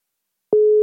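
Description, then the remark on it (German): A phone line's ringing tone, a call going unanswered, starts after a moment of silence: a single steady, mid-pitched beep held loud and even, with no voices. “Sie geht nicht ran.”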